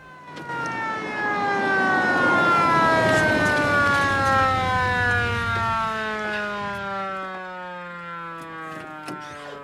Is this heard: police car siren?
yes